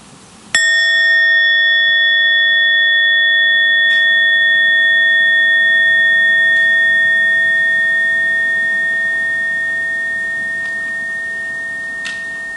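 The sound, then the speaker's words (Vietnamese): A single meditation bell is invited with one sharp strike after an in-breath and an out-breath. It rings out alone, its clear layered tones sustaining and slowly fading over many seconds. “Hơi thở vào, hơi thở ra, sau đó mình mới thỉnh một tiếng chuông.”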